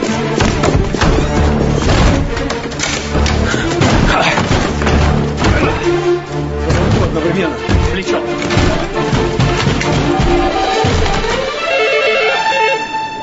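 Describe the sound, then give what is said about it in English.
Heavy, repeated thuds and crashing blows as two men with guns try to break down a door, loud and irregular, layered over a dense rumbling backdrop with occasional indistinct voices. “There are two men trying to break down the door.”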